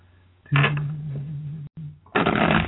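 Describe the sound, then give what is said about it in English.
Two bursts of card shuffling, a longer rapid riffle followed by a brief pause and a second short riffle, crisp and fairly loud over a low steady hum. “So I'm shuffling the cards, and you tell me when to stop shuffling.”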